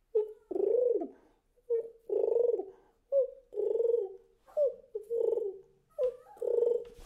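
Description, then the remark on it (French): A person imitates a pigeon's cooing, five close, rhythmic calls in a row, each a short note rolling into a longer throaty warble, with brief pauses between them. “Le pigeon, j'ai...”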